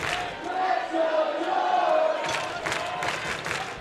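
A ballpark crowd at a baseball game involving Fredericksburg roars and cheers in a steady wash of noise, with a few shouted voices rising above it and rhythmic bursts of clapping in the second half.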